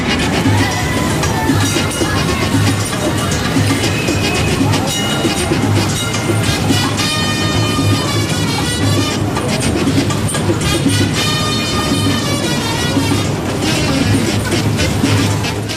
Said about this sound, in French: Il occupe une place très spéciale dans le cœur des Stambouliotes. Le tramway rouge qui remonte l'avenue Istiklal jusqu'à la place Taksim aura bientôt 105 ans. Un siècle de bons et loyaux services dans le quartier bouillonnant de Taksim à Istanbul.